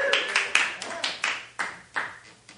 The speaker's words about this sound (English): Round of applause.